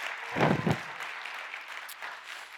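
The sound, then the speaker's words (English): A crowd applauds with dense, steady clapping, briefly louder at the start with a few deeper thuds, then settling into a sustained even patter that continues to the end. “You might want to hold the applause until after you've heard what I say.”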